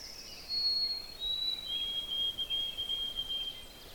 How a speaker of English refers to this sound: Ah, that whistle song a little far away was a white-throated sparrow. Oh, sweet Canada, Canada, Canada. And they are everywhere.